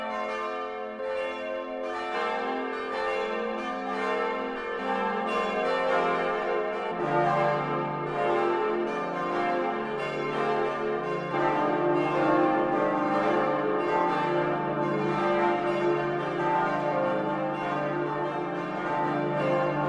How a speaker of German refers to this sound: Wir wollen einige historische Glocken auch hören